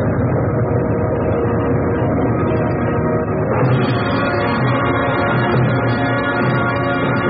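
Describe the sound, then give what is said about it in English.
A loud, steady rumble of a ship's engines running hard after being got working again, a dense low throb with a rough mechanical texture that grows slightly fuller partway through. “The chief engineer didn't fail them, and no sound was ever sweeter to the men's ears than the throb of the ship's engines.”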